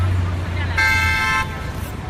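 Steady low rumble of New York street traffic, broken by a single loud, mid-pitched car horn blast lasting under a second, then the traffic hum carries on.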